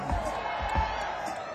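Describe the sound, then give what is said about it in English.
An audience snaps its fingers in a scattered, irregular patter, imitating a hippo's toenails scraping the pavement, with soft thumps and murmur beneath the crisp clicks. “Sound like finger snaps right here.”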